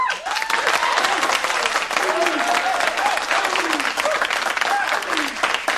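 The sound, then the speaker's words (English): A large crowd at a pep rally applauds steadily and loudly, cheering for the driving force behind the Screaming Eagles, with scattered whoops and shouted cheers rising above the dense clapping throughout. “Tonight, we also want to send up a big cheer to the driving force behind the Screaming Eagles.”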